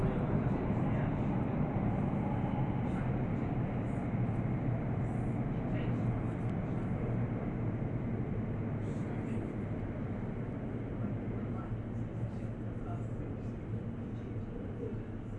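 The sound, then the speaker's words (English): A steady, loud rumble of an underground train to Abbey Wood via Canary Wharf, heard from inside the carriage, with constant low roar and faint high squeals throughout, no clear talk. “This is the train to Abbey Wood via Canary Wharf.”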